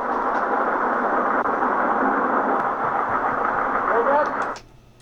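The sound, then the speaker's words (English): A steady car engine drones with road rumble while driving on a freeway, holding an even level for several seconds before cutting off abruptly near the end. “I think he's just squeezing in the car, the freeway.”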